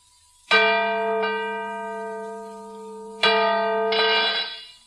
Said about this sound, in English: Good heavens. The bell is cracked. I thought it has. But this is unbelievable. It was in perfect condition.